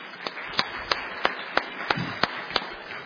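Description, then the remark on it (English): Applause at a banquet honoring the banquet committee, with a dense, hissy wash of clapping and one clapper beating a steady, evenly spaced rhythm of sharp claps on top, moderately loud and without voices. “I want to just honor them at this time with a round of applause, if we could.”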